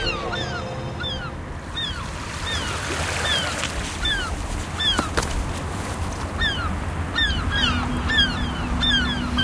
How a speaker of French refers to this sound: Avec les mouettes qui tournent dans le ciel, là. On est à Cherbourg, avec en face de nous les restes des fortifications.